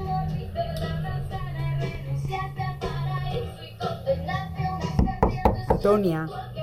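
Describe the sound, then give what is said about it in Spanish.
Music plays steadily, then near the end a series of loud, sharp knocks on a closed door cut through it, four or five quick raps in an uneven burst, as someone wants the door opened and the music turned down. “ábreme la puerta, ¿me oyes?”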